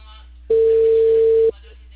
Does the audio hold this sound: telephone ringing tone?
yes